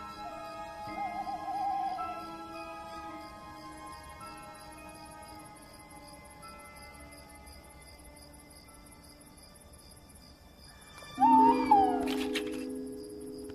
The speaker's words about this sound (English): A male tawny owl. And he has a mate. They've been together for 10 years. For most of the year they roost apart. But every autumn, they re-establish their relationship with a duet of hoots.